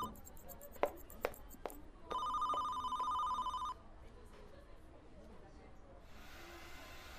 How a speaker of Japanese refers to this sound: 店長、予約のお電話です。